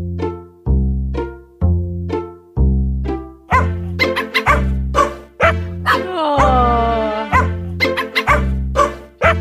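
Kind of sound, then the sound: animal, dogs barking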